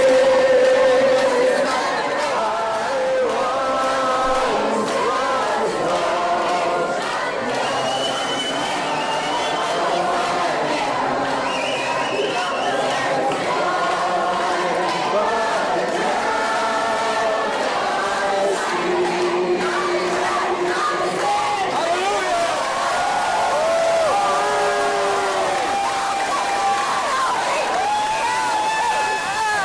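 A crowd of abortion supporters chants and shouts together in the background, reportedly hailing Satan, many overlapping voices rising and falling at a steady, fairly loud level for the whole half minute, with no single clear speaker standing out.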